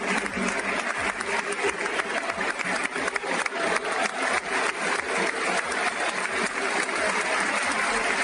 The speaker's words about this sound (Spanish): el protagonista ha sido Duda. Historia del Pozo de Murcia, que recibía esta ovación de despedida ayer en el Palacio de los Deportes de la capital murciana.